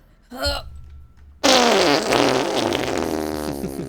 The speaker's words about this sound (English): fart as loud as you can for a second.